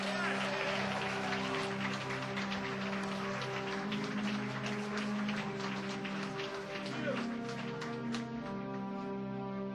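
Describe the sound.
A crowd applauds a big band steadily for about ten seconds, a dense crackle of many hands clapping at once, with a low sustained hum and murmuring voices underneath.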